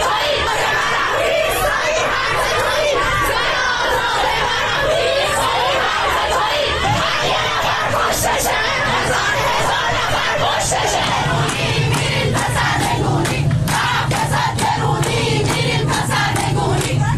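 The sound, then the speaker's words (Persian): A large crowd at a protest rally against the Islamic Republic government in Najafabad and Bandar Anzali, Iran, on Sunday 18 Dey, chants and shouts together in loud, rhythmic bursts, with overlapping yells and dense chatter running through the whole scene without a break. “تصاویر دریافتی از نجف آباد و بندر انزلی نشانگر برگزاری تجمع‌های اعتراضی در این دو شهر علیه حکومت جمهوری اسلامی در روز یکشنبه 18 دی است.”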